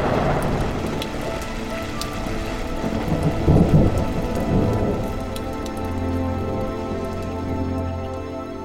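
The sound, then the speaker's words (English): A heavy thunderstorm: steady rain pours down while deep thunder rumbles and rolls, swelling loudest midway before settling into a low, continuous growl under the downpour. “The storm's over.”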